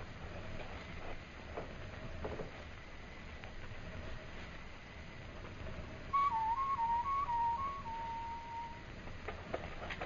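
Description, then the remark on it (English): A person whistles imitating a night bird, a short, warbling birdlike call, a quick run of wavering notes lasting a few seconds, heard over a steady low rumble of background noise. “And when you get on the far side, whistle like a night bird.”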